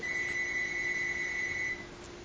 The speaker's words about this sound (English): Pick that phone up and hand it to Sue, please. Don't answer it.